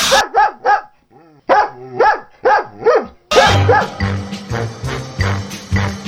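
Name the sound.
dog barking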